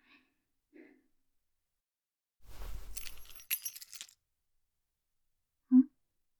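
A brief jingle of metal keys amid some handling rustle as a spare key to a room is handed over, lasting under two seconds, with quiet gaps and a short soft vocal sound before and after.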